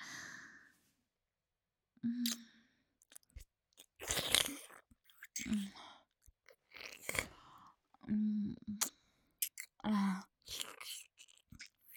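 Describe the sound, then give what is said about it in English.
Wet slurping and smacking mouth sounds of a woman on her knees slurping up a mess, coming in irregular bursts separated by short silences, with soft breathy sighs between them and no speech. “And slurp up the gooey, creamy little mess you made for mommy.”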